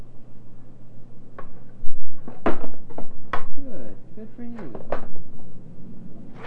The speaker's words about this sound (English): Build a house. Build a house. See? Stack them up. One block up and another one on top of the other.